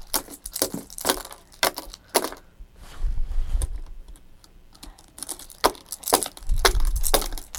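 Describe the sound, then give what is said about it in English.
Bright metallic clinks and rattles come in irregular bursts, like a ring of keys being shaken and jingled, with a few quieter pauses and low thumps between the jangles. “Yeah, get those keys. Get them.”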